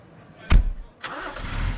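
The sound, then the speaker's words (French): A truck engine cranks with a sharp burst, then turns over and catches into a steady, low rumbling idle, fairly loud, with no voices. “Et puis après, il avait repris le volant.”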